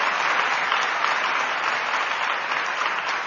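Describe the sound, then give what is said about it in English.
A steady, dense burst of audience applause, many hands clapping continuously at an even loudness for a few seconds with no voices standing out, applauding the ladies from 20 states who put on an exhibition at a Satya Sai Seva organization event. “Give all the ladies a fantastic applause.”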